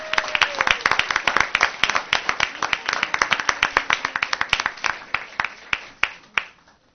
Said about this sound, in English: Okay, round of applause, please.